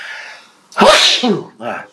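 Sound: sneeze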